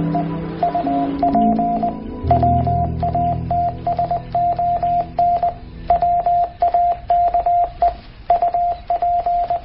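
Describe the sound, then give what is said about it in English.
Morse code tapped out to spell "Wake Up Watson", a steady, mid-pitched electronic tone keyed in quick dots and longer dashes, loud, over a low background rumble, with no one speaking. “I'm tapping Wake Up Watson in Morse code.”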